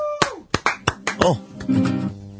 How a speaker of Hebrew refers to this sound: חבר'ה, כפיים באולפן